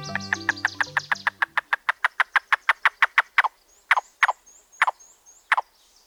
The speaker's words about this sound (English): This staccato call tells us there's a yellow-billed cuckoo nearby. One of two species of cuckoos in the woodlands of North America.